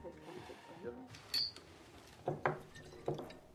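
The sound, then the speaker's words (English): Glasses clink and knock together as someone clears them away before walking out: a bright ring, then a few sharper clatters spaced out over a few seconds, moderately loud, with faint background murmur. “clears glasses and walks out.”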